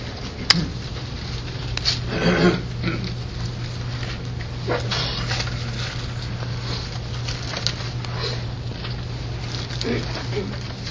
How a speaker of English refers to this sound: I hear a lot of rustling pages.